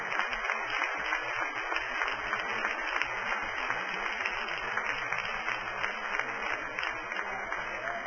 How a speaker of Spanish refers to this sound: Denle un aplauso al Señor en esta noche.